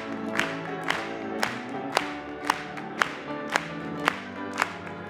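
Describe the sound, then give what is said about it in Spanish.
An audience at a Spanish-language church service claps together in praise in a steady, even rhythm, about two claps per second, with sustained tones and crowd sound running underneath. “Vamos a aplaudirle.”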